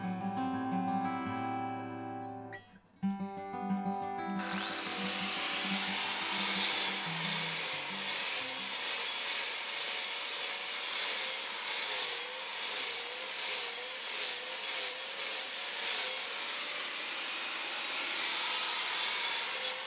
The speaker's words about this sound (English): On very hard stone like this sandstone, when a lot of it has to be removed in one go, power tools have their place.